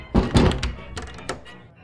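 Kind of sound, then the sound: household object, door being shut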